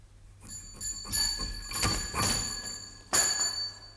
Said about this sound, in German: Eines Abends im Juni 1889, ungefähr um die Stunde, wo man gewöhnlich anfängt zu gähnen, wurde bei mir zu Hause die Glocke gezogen.